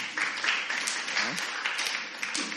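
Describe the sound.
A church audience claps hands in a steady, continuous burst of applause, with faint voices mixed in underneath.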